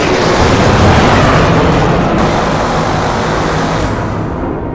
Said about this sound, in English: Kimberly grips her throttle, using every bit of fancy flying she knows to try to lose the fighters as they open fire and give chase.